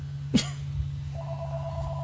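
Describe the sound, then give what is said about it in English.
After a short click, a telephone starts ringing with a steady, fairly quiet electronic tone that continues to the end, over a low background hum. No one speaks. “I have a phone in here.”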